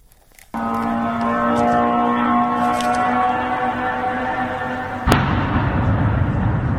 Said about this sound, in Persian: با صدای زوزه موتور و انفجار دست کم 6 پهپاد انتحاری ساخت ایران، اهالی شهر بیلوتسرک و در 100 کیلومتری جنوب کیف شب پر استرابی سپری کردند.